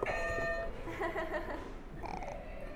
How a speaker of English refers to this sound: You can go ahead and hit another buzzer. Can I hit two? Sure, go for it.